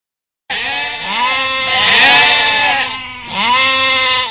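A sheep bleats loudly, a long wavering cry followed by a shorter second bleat, with no other sounds or voices around it.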